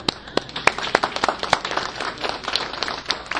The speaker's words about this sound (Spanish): ¿Le gusta? Aplauso, ¿no?